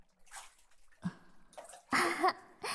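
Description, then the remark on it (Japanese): Wet, squishy scrubbing and lathering sounds of washing in a bath with a very richly foaming, slippery soap, with soft sloshing water and bursts of foamy rubbing growing louder toward the end. “泡まみれになっちゃった。この石鹸すっごい泡立ちいいですね。”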